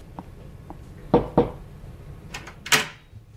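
Two firm knocks on a doctor's door at a clinic in quick succession, solid and thudding, followed a moment later by a brighter clack, like a handle or latch moving. No one speaks.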